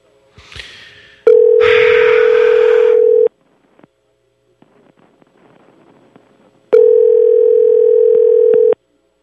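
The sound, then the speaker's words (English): A phone call to a subscriptions line ringing out: two long, steady mid-pitched ringback tones about two seconds each, separated by a quiet pause with faint rustling. A short noisy burst comes just before the first ring. “Are they answering or not?”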